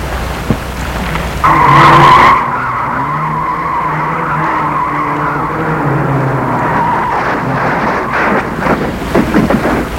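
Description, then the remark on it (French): A car brakes hard with a loud, sustained tire screech lasting a couple of seconds, followed by engine rumble and traffic noise with some wind buffeting the microphone. “Il a entendu une voiture qui a freiné.”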